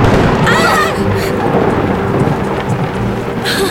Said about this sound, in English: Scared me. That lightning was close. It just looked that way. We're safe. But I heard water is the worst place to be in a lightning storm.